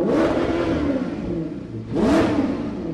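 A Maserati GranTurismo S engine revs up loudly, its deep roar dipping briefly before a second sharp rev climbs again. No voices.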